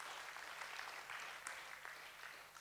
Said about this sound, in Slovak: Môžeme dať potlesk Pánovi za to. Halelúja. Halelúja, Pane.